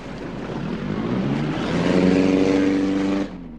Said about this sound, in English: The police boat arrives at the launch.